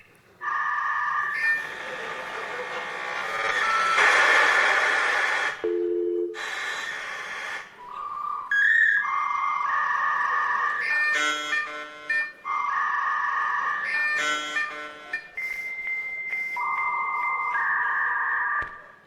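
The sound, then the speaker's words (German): Opera singers use their voices to mimic a dial-up modem handshake: sustained pitched tones, warbling bursts and buzzy static-like chatter in a loud sequence, with no ordinary speech. “eigentlich dachtest du ein anderes lustiges Opernvideo. Wo es sozusagen um Modemgeräusche ging?”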